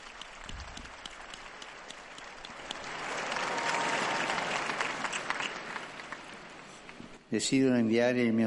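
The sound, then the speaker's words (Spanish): A large crowd applauds steadily for several seconds for a newly beatified man, the clapping swelling in the middle, before a voice starts speaking loudly as the applause trails off. “Un aplauso para el nuevo beato.”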